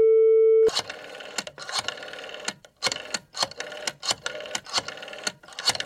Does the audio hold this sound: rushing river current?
no